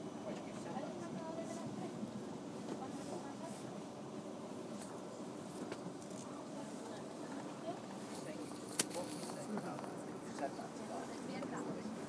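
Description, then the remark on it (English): Steady rumble and rattle inside a moving train carriage travelling from Twickenham toward Richmond, a constant mid-level drone with occasional clicks and creaks, and indistinct voices murmuring. “I thought I'd leave this on so that you can hear the train boostscape, and it's not long to Richmond after Twickenham.”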